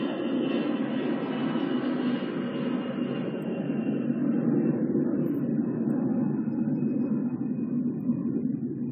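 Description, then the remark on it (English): A propeller or jet airplane drones steadily overhead, a loud, continuous low rumble with a broad roar that slowly fades in its higher tones as it passes, with no talking. “again, let's wait for that plane.”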